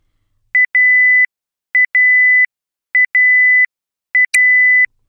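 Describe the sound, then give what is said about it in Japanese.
A cooking appliance's end-of-cooking buzzer sounds alone and clear, signalling that grill cooking is finished: four repeated electronic beep patterns, each two quick short beeps followed by a longer sustained tone, with brief pauses between. “6、ブザーが鳴ったら調理終了です。”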